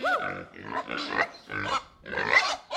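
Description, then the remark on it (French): A pig grunts and squeals in four or five fairly loud bursts with short pauses between them, and no other sounds around it. “Et le vache et le cochon.”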